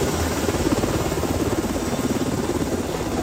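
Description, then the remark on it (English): A National Guard Black Hawk helicopter passes overhead while searching for a missing woman swept into Havasu Creek by flash floods at Grand Canyon National Park; its rotors beat in a fast, steady low chop beneath a loud, continuous engine roar, with no voices. “The National Guard now using a Black Hawk helicopter and some boats to search for a 33-year-old woman still missing after getting swept into Havasu Creek by flash floods at Grand Canyon National Park.”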